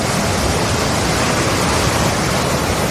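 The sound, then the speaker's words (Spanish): A loud, steady roar of stormy ocean waves 3-4 metres high in the darkness, churning like heavy surf crashing continuously, with no voices and no pauses in the dense rushing noise. “En medio de la oscuridad del océano, una patera desafía las olas, que alcanzan los 3-4 metros de altura”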